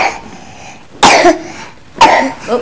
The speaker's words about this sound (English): I have to give you some more cough medicine, don't we? Yeah. Oh, bad cough.